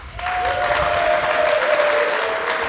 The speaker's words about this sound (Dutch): En voor degenen die hebben zitten slapen, we zijn hier vergezeld door Tweakers, Tech45, Geeky Dingen en TechSnacks. Dus ook hartelijk applaus voor hen.